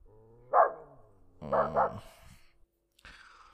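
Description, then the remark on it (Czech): A dog barks in a few sharp bursts: one bark, a pause, then a quick double bark, followed by a brief thinner yelp after a moment of silence. No one speaks. “Ale ne! Ten pes!”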